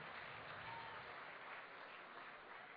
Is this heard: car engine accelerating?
no